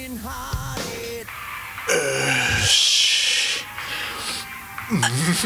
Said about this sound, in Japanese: ゆっくりと動き出し、怪しい呼吸も聞こえてくる。